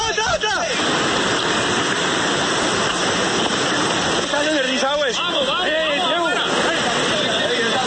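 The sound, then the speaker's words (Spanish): A loud, steady roar of dammed Cauca River water rushing out at the Ituango hydroelectric plant after a failure in the powerhouse fills the whole recording. Workers running to safety call out agitatedly over it near the start and again midway, warning colleagues below the dam. “Uno de los trabajadores que logró esconderse en la mitad de estas piedras por poco es arrastrado por las aguas del río Cauca que se encontraban represadas.”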